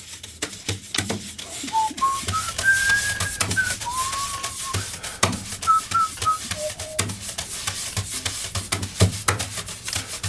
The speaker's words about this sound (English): Whistling, very nice. Oh, thank you. Yeah, love whistling. It's nice to whistle.